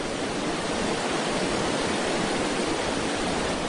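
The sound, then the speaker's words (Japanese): A dense, steady roar of a fast, churning river flowing 5 to 6 meters below a bridge on a moonlit night, continuous and fairly loud with no pauses and no voices. “その女の人は橋から身を踊らすと 5,6 メートル下の流れの激しい川へと落ちていった。”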